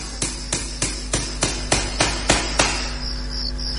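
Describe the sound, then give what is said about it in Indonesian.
At night, a hammer strikes about nine times in a steady, even rhythm, each knock sharp and moderately loud, then stops; a constant low hum and faint high insect chirping continue underneath. The knocking comes from outside a bedroom. “Iya, seperti suara seseorang yang sedang memukul menggunakan palu.”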